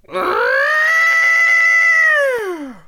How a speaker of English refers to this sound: Well, elephants, he grew very excited. Trunks in the air, let's give her a big trumpety send-off.